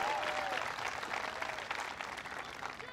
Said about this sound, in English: Lieutenant Governor John Cherry. Give John a big round of applause.